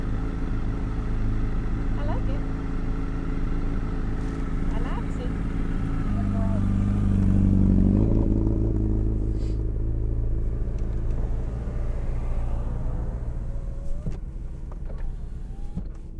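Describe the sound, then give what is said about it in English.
The engine of a small Volkswagen Beetle (Bug) with electric windows runs with a steady, throbbing low rumble that swells briefly midway as it revs, then settles back. Faint voices can be heard behind it. “This little Volkswagen Bug has electric windows.”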